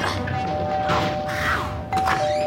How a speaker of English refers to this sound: Testing doorbells now?